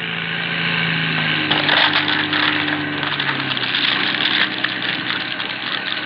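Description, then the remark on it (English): Seaplane motors drone with a steady low hum as the plane gathers speed on a river and rises off the surface, then a harsh, crackling grinding noise breaks in and continues loudly over the engine roar. No voices are heard. “It is just rising off the surface when there comes a cruel, grinding sound.”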